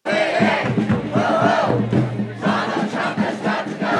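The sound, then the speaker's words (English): A large crowd chants together at a protest targeting Musk and Trump, many voices shouting in a loud, rhythmic unison that rises and falls in steady bursts with no gaps of quiet. “Musk and Trump were the targets of protest over the weekend.”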